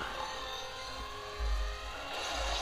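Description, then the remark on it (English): Deep bass from a passing car stereo with the radio turned all the way up booms outside in heavy low pulses that swell and fade, muffled over a steady background hum. “bro, who's like playing just bass?”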